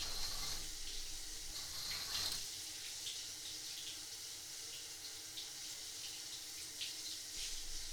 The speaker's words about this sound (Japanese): シャワーで泡流していきます。くるっと反対向いてもらえますか。もしまだ泡やオイルが残ってたら、自分でシャワーで流してください。